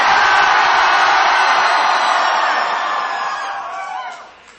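A crowd of audience members lets out a loud, sustained collective scream on the performer's cue, a dense wall of many voices that holds steady for a few seconds before trailing off and fading at the end.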